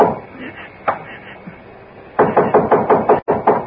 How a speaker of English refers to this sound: And when I knocked on the door...